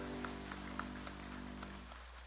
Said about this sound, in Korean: 감사와 영광의 박수 올려드립시다. 아멘.